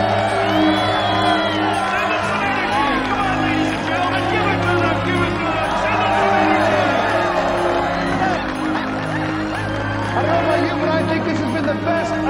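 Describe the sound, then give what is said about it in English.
A large crowd cheers, whoops and applauds steadily for ice sculptors who have worked for three days, a dense roar of voices with scattered shouts that stays loud and sustained throughout, with no single voice standing out. “All right, ladies and gentlemen, let's hear it for the sculptors.”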